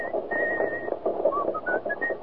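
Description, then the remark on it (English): Someone whistles a short melody, with sustained notes followed by quicker rising phrases over a faint background hum. “What's that tune you're whistling?”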